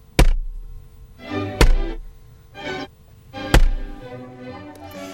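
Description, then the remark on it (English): Three heavy, dull thumps of a pak choi banged on a desk, spaced a second or two apart, with crisp leafy rustling in between, loud with no talking. “In the spirit of light entertainment, here is a pak choi being banged on the desk.”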